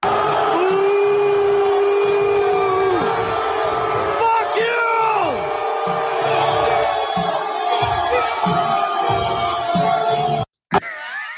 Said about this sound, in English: There's Donald Trump getting booed at a UFC fight.